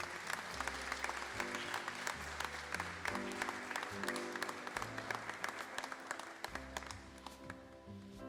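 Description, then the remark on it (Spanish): An audience bursts into sustained applause for the businesses in the best facade category, including Globos al Aire and Marca Atelier, at the 2021 contest awards. It is a dense, steady clatter of many hands clapping for the full eight seconds, with low musical tones playing underneath. “Fuerte el aplauso.”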